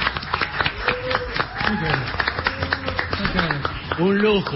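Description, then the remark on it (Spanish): A studio audience claps loudly and steadily throughout, a dense patter of hand claps, while voices talk and call out over the applause welcoming the President of the Nation, Alberto Fernández, to the show. “minutos y un aplauso fuerte que tenemos con nosotros a presidente de la Nación, el señor Alberto Fernández, acá en el Mañana.”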